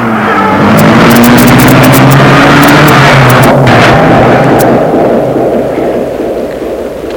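A large black car's engine starts and roars loudly, its low pitch rising as it revs and pulls away, the sound slowly fading toward the end with no voices.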